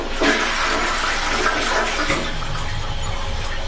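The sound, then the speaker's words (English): A toilet flushes after its lever is pulled down, with a loud rush of water that swirls and gurgles steadily for a few seconds, filling the whole clip without any voices. “Like I pull on it, pull down, pull down, and then it makes the noise, like it gurgles.”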